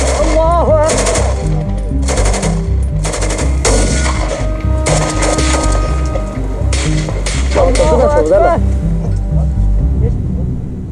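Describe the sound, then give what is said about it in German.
Loud, rapid bursts of automatic gunfire crackle in repeated volleys, harsh, while men shout and call out over the shooting and a low rumble runs underneath; from a Taliban propaganda video of the Good Friday firefight with German soldiers on 2 April 2010. “Und dann gingen auch schon die ersten Schüsse los, ne?”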